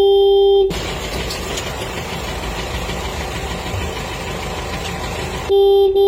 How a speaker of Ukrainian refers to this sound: Довелося довго пошукати гуркіт трактора, щоб він був домашнім, мирним, не схожим на проїзд танка.